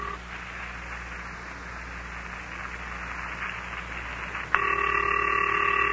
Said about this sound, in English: I wish they'd hurry up and answer. Come on, Han. Come on, Iz. Pick up your telephone.